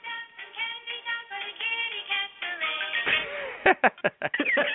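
A phone ringtone plays a bouncy, tinny melody with bright sustained notes, followed near the end by a few sharp, choppy bursts as the tune continues.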